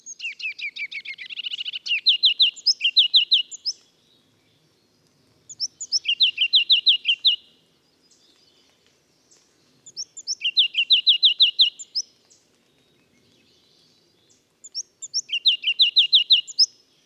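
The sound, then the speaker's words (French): A bird in the foliage of a large maple tree sings a loud, bright phrase of rapid chirps, repeating it four times with short pauses between, clear with no other sounds around it. “J'ai encore le souvenir de cette première vision alors que j'entends un chant puissant, très sonore, qui se repère de loin grâce à cette ritournelle presque lancinante.”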